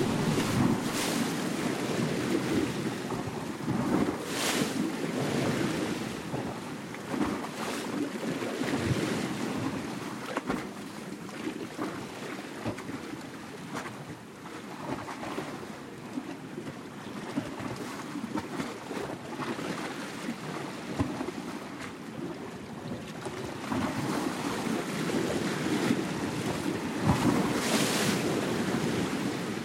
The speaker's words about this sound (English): We leave you this week on the shores of the Adriatic Sea. Eric Lacasa composed this piece from recordings he made of waves hitting the shoreline and swirling in rocks along the coast near Rovinj, Croatia.